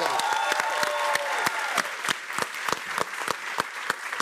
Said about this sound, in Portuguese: Uma salva de palmas para duas.